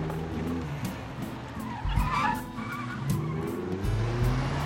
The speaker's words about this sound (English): Her fender falls off as she backs away from the street lamp, then tears out of the parking lot.